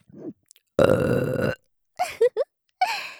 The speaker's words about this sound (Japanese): 上手にしこしこできたら、ご褒美ゲップが待ってます。